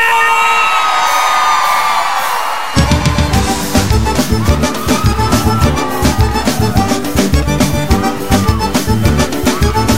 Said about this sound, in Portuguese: Cadê o grito da galera?